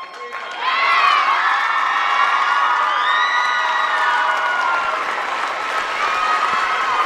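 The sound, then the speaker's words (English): Middle and high school students in their school auditorium, with the senior class in the front rows, erupt into loud, sustained cheering at the reveal of a college offer, with high-pitched shouts and whoops rising over clapping and excited chatter that holds steady for several seconds. “There was cheering, hugging, huge smiles from the senior class seated in the front rows.”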